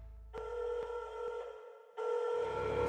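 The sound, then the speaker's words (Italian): A telephone rings at the 113 emergency line in Italy at 4 pm on April 20, in two bursts, a steady electronic ring with a brief pause between them, fairly loud with no voices. “Il 20 aprile, due giorni dopo la scomparsa, alle ore 16, al 113, arriva questa telefonata.”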